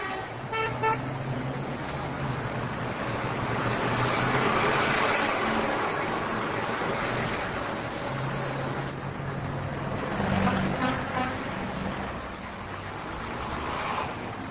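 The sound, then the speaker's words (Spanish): Busy city street traffic around Plaza Independencia in the Ciudad Vieja, with a steady roar of engines and several car horns honking at intervals, some short toots and some longer blasts, fairly loud. “En la próxima media hora, el tránsito alrededor de la Plaza Independencia será el tema informe”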